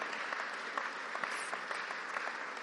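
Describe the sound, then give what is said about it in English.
A crowd applauds steadily to welcome guests, a dense, even wash of many hands clapping at once with scattered sharper claps poking through, holding at a constant moderate level throughout. “Could we just give our guests a good welcome and a round of applause and say, it's great to see you.”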